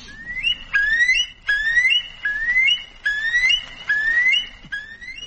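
A bird repeats clear, tonal phrases about six times, each a rising whistled note with bright harmonics, evenly spaced and fairly loud, sounding like notes played on a piano. No voices.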